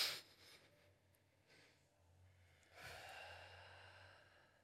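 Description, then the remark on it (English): A slow, deliberate breath: a soft airy inhale followed by a longer, louder exhale through the mouth, with no talking. “Like breathing.”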